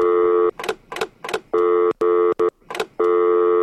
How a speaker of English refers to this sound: Hang on. Just a sec. Right, okay. Is that a real phone call? No.